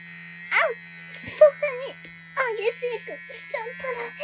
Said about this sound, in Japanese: このローターすごく癖になっちゃいそうです。すごい激しい。